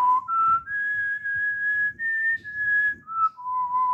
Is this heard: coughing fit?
no